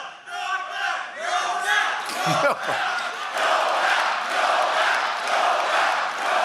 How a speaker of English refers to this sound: If there's any one thing I never would have predicted in a Donald Trump presidency, it's a crowd of his supporters chanting Nobel. That's like going to a monster truck rally and chanting Pulitzer.